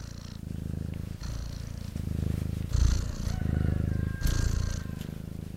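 A female cat purrs steadily, a low rumbling drone pulsing in a regular rhythm of long breaths in and out, with no talking over it.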